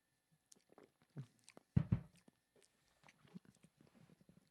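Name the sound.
sipping coffee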